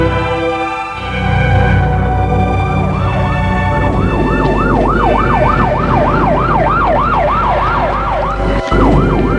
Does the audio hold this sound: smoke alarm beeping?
no